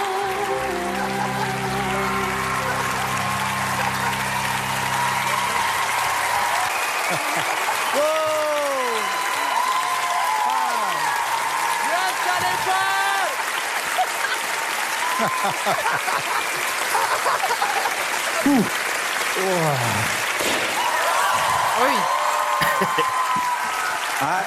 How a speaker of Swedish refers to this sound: De tycker om dig. Fortsätt klappa.